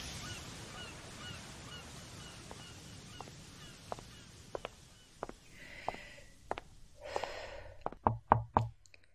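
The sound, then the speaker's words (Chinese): Knocking on a door: scattered, uneven raps grow gradually louder, ending in a quick, forceful cluster of knocks. Faint, nasal honking sounds drift in the background. “有人在吗？是我，快开门！”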